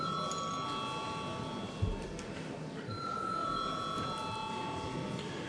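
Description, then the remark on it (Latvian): A parliamentary voting call bell rings steadily for several seconds before a secret ballot on appointing a court judge, a sustained metallic tone echoing over a low murmur of room noise. “Paldies, lūdzu zvanu.”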